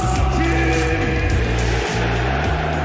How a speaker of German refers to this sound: Das, meine Damen und Herren, sind die fanatischen Fans von Galatasaray Istanbul. Alles schreien und Becher werfen hat aber nichts genützt.